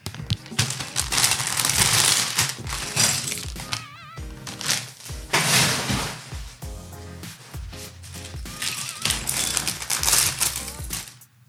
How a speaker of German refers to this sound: So, letztes Rascheln, Achtung, Tüte 5.